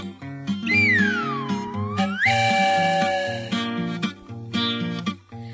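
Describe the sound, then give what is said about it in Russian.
A cartoonish steam-engine whistle of a samovar-locomotive swoops down in pitch and then holds a high, shrill tone over bouncy, steady background music; no voices, and no distinct puffing stands out. “Самовара паровоза ветролет, он летит, свистит, пыхтит, ты чай дает.”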